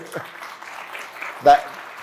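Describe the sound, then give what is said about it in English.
An audience applauds with steady, dense clapping at moderate volume, with a brief louder burst near the end, after a speaker is introduced as the person responsible for bringing cricket to the Olympics. “that applause you hear is Indians counting the medals already in 2028.”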